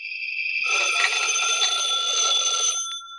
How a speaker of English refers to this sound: When I got home, the phone was ringing.